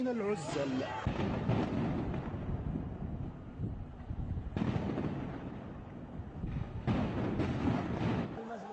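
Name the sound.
gunfire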